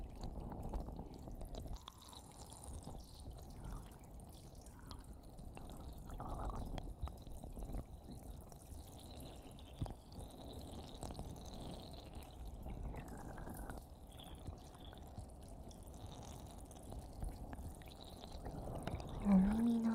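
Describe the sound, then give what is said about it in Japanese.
Steady trickling and splashing of warm water rinsing shampoo foam off hair, with the head tilted to the left, a soft continuous wash with occasional drips, with no talking. “こっち側も泡を洗い落としていきますね。”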